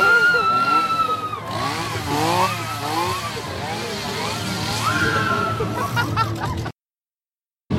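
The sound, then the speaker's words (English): A chainsaw engine roars at the Redneck Redemption attraction, its pitch climbing and dropping in repeated revs for several seconds before cutting off abruptly into silence. “Touched you with a chainsaw, I'd like to add.”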